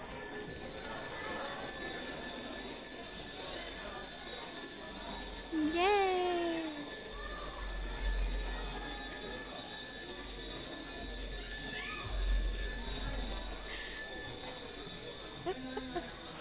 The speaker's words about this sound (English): So for now, we get to ring our bells. Let's ring these bells.